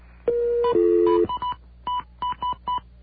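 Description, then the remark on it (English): Touch-tone phone keypad tones on a call to the Long Island Railroad's Travel Information Center: a brief steady tone gives way to a quick run of about seven short, clean button beeps, evenly spaced and clear, with no voices. “If you are calling from a touch-tone phone, you can get schedule and fare information immediately through Teletrip by pushing 1 now.”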